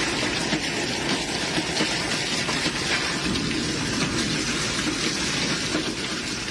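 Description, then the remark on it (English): Dense, relentless pelting of large hail on a house in North Texas, a loud, steady roar of countless impacts with no pauses, filling the whole recording without any voices. “Resident Sonia Ryder pulled out her phone to record as the hail pelted her home.”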